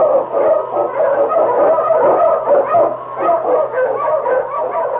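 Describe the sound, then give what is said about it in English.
A pack of sled dogs led by the Eskimo lead dog King barks and yips continuously and excitedly, loud, overlapping barks forming a dense, chaotic chorus with no speech. “Wonder Dog King, swiftest and strongest of Eskimo lead dogs, blazes the trail through storm and snow for Sergeant Preston as he meets the challenge of the Yukon.”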